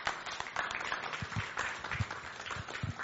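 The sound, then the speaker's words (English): A crowd applauds steadily for a few seconds as a man comes up, a dense wash of many hands clapping at moderate volume, with a few louder individual claps standing out and faint voices mixed in. “And see, I'll give him an applause as he comes up.”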